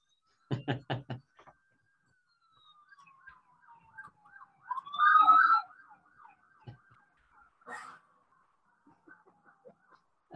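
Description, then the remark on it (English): A fire truck siren wails as it drives around the square, with a descending pitch sweep and a brief loud blast in the middle, preceded by a few sharp knocking hits, then fades out. “There's a fire truck going around the square.”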